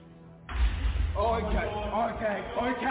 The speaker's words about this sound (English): There were either repeated knocks or someone pressing the door handle to one of the rooms on the door downstairs repeatedly.